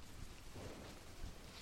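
A steady wash of rain hisses continuously, fairly quiet and even, with a few soft low rumbles underneath and no voices.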